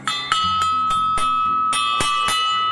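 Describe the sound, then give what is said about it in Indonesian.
A school bell rings loudly and steadily, its metallic clangs struck in a quick, even rhythm about ten times, each one ringing on into the next. No voices are heard. “Tuh, sudah bel malah.”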